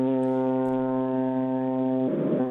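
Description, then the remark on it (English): A ship's horn sounds one long, loud, deep blast as the ship approaches Osaka, its steady low drone holding for the whole stretch with a slightly rougher burst near the end. “That's basically saying, I'm here, I'm approaching Osaka, get out of my way.”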